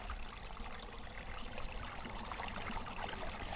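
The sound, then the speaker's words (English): The Waratah Rivulet flows steadily, a continuous bright trickling and babbling of water over stones with no voices, the rushing texture even and unbroken throughout. “It's Jeremy Buckingham, State MP for the Greens, finishing off that special series of interviews done by Sharon Cullis from the Georges River Environment Action Group on the banks of the Waratah Rivulet.”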